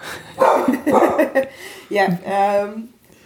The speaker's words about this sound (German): Sorry, der Hund. ich weiß nicht, ob ihr ihn hört. Er ist sehr schön.